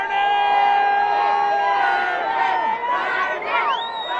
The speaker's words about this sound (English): Only on his holiday, Zozobra is ritualistically burned to death on a hill above a baseball field filled with tens of thousands of screaming people.